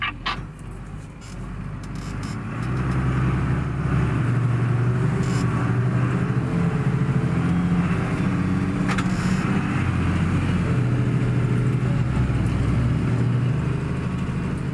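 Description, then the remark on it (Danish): A heavy tractor engine labors at full throttle pulling a stuck slurry tanker, its deep drone rising after a couple of seconds and holding a steady, straining roar as the tanker jerks about a meter and the tractor digs itself in, with no one speaking. “Gyllevognen rykker sig en meter mere, og traktoren graver sig ned.”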